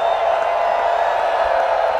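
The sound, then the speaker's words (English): A large crowd at a summertime gathering howls and cheers together in a loud, sustained wash of voices, holding a steady level for the full two seconds with no break or pause. “It's our time to howl, friends.”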